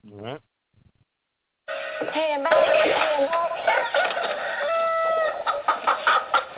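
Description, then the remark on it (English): Fighting roosters crow loudly and cluck over one another in a dense, overlapping chorus that runs for several seconds, after a brief squawk and a short pause at the start. “Well, anyway, this is the snippet of this innuendo about the fighting roosters that I think you will love to hear.”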